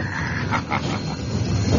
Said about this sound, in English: Listen to that old train dragging up that grade. Chug, chug, chug, chug, chug, chug, chug, chug, chug, chug, chug, chug, chug, chug, chug, chug.